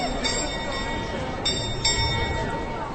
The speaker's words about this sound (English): medieval astronomical clock that's one of the most instantly recognisable symbols of Prague. Each hour, on the hour, the chimes are accompanied by a jerky procession of painted wooden disciples and other figures, to the delight of the tourists below.